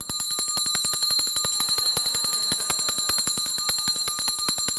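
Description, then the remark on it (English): A small handheld bell is shaken rapidly and loudly in a house to signal dinner, its clapper striking in a fast, steady rattle while bright metallic tones ring on continuously for about five seconds, with no voices. “It's a small bell, but boy, it's a loud bell, especially in my house.”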